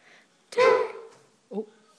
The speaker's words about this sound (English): Oh. I thought that was the dog. No. You ran into a table.